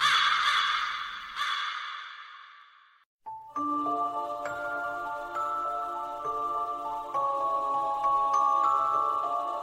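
A raven gives a few harsh, raspy caws at the start, then falls silent as sustained, chiming music with bell-like tones takes over.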